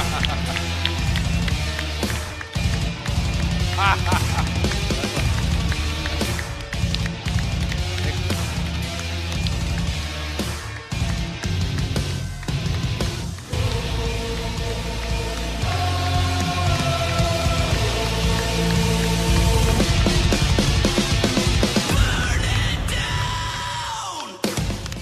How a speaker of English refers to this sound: As he soaks in the applause, gives us his Seth freaking dance moves.